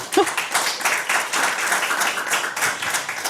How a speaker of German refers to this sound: Und einen herzlichen Applaus, bitte.